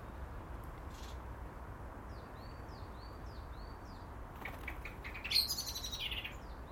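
Outdoors, after snow has gone and the sun has come out, a female blackbird takes off to repel another intruder with a quick flurry of wingbeats and a sharp, loud burst of alarm chatter, after a series of soft, repeated chirps over a steady background hiss.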